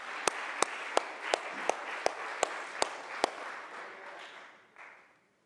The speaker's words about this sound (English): Can you clap your hands and would you be seated?